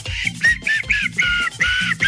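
A person whistles loudly with their fingers in a string of short, shrill bursts, the high pitch sliding and wavering from note to note, with no talking.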